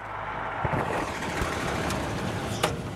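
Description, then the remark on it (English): A bus engine runs steadily with a constant low rumble and broad mechanical noise, fairly loud, broken by a few brief clunks and rattles, as the bus travels to the city of Minatitlan. “But 5 days a week, he struggles onto a bus and heads to the city of Minatitlan, an hour and a half away.”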